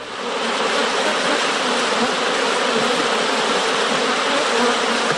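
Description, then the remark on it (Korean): A dense, steady buzzing of many bees, fairly loud, filling the whole stretch without pause after a brief quieter start; no voices are present. “꿀벌과 호박벌은 같은 꿀벌과에 속합니다.”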